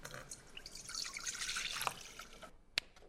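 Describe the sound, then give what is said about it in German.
Water drips and trickles in a busy, splashy wash for a couple of seconds, then a lone sharp drop lands clearly in the quiet near the end. “Damit sich alle Zutaten auch so richtig schön vermengen, brauchen wir die allerletzte Zutat, damit wir auch so einen schön klebrigen Teig, so eine homogene Masse bekommen. Das ist das Wasser”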